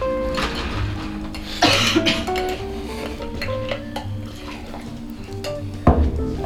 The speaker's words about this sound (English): So I'm just going to put one of the big ice cubes. Nice. A couple of small ones.